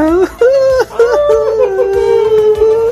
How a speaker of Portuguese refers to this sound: Cachorro tá latindo que disparou o coração dele, né?